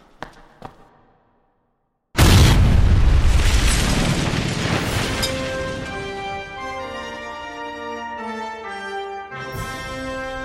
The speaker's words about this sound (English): We'll blow the model itself with a special Titan blend of my own design. And when it's all done, we'll have a very convincing gas explosion. Silver sparks will come through and you'll get a faint gas-type aura.